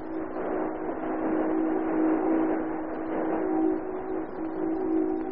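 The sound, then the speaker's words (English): A powerful speedboat engine runs steadily for several seconds, a continuous droning hum with a low, buzzing pitch and slight swells in loudness, with no voices. “With this powerful speedboat of yours, Captain, we ought to be able to catch our men.”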